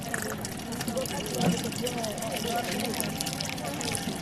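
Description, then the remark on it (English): Water pours steadily into yellow jerry cans at the one local water point of a camp on the outskirts of Baidoa, a continuous rushing trickle beneath the murmur of a big crowd of mostly women. “There's a big crowd around the one local water point, huge rows of yellow jerry cans waiting to be filled.”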